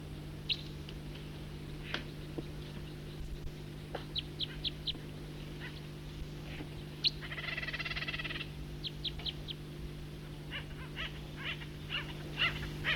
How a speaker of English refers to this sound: And there are acorn woodpeckers and Stellar's jays in here. Stop. It's a recording flight call of a bird.